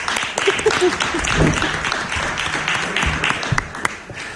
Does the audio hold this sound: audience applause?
yes